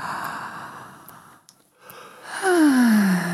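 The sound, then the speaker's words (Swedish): A person fakes a yawn: a long, breathy open-mouthed inhale, a short pause, then a loud voiced sigh sliding downward in pitch, with no talking. “Man kan fejkgäspa. Gapar, andas in.”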